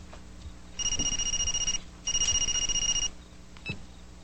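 A telephone rings in two steady electronic bursts of about a second each, clear, with a brief chirp trailing after. Nobody speaks.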